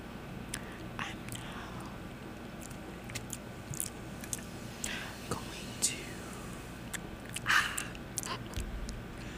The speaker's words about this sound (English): Wait, ASMR moment. POV, you're eating pad thai. And drinking A&W cream soda.